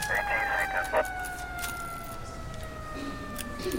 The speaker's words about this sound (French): Délicatement, ils m'ont soulevé, porté et installé dans une ambulance. Une sirène retentit.